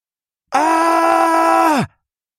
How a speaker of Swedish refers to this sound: Ett högt skrik, så fyllt av smärta att Frejo aldrig hört något liknande.